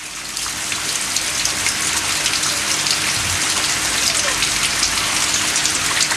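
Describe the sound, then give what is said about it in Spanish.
Steady, heavy rain pours down outside in Valdivia, a dense continuous hiss with scattered drops pattering on surfaces, loud through an open window with no one speaking. “Por el micrófono de la radio, tengo la ventana abierta, se escucha muy fuerte la lluvia.”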